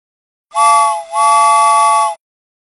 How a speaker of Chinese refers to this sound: 铁轨从天空缓缓垂向地面的站台，小火车托托拉响了汽笛，从天空驶向地面。